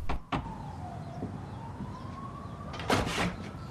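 door slammed shut

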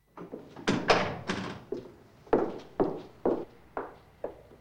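front door opening

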